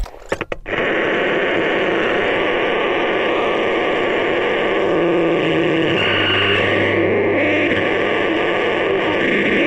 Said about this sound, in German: Jeder Besitzer eines Radio- und Fernsehgerätes kennt das Phänomen. Bei Ausfall eines Senders oder wenn auf einem solchen nicht genau abgestimmt ist, hört man ein nicht näher definierbares, unregelmäßiges Geräusch.